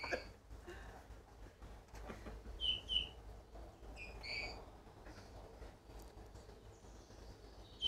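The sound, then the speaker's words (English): Bullfinch song: a few soft, squeaky whistled notes in two short bursts, high-pitched and quiet over a low, steady background rumble, with no talking. “That's the bullfinch's song, okay?”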